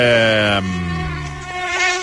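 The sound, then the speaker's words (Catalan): A loud mosquito whine buzzes steadily for about two seconds, its thin droning pitch wavering slightly as it hovers, with no voices present. “Catalunya vigilarà la imminent arribada del mosquit tigre per prevenir casos de dengue.”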